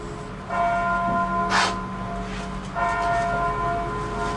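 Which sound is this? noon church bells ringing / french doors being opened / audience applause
noon church bells ringing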